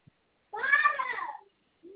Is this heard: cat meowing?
yes